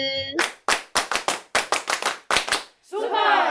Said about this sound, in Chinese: 那让我们一样就是用热烈的掌声来欢迎